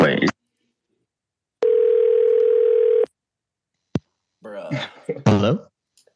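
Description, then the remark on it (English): A steady, loud telephone dial tone, as someone phones a friend, hums for about a second and a half, followed by a sharp click, then voices start talking. A brief bit of speech precedes the tone. “Hey, I'm looking to phone a friend here.”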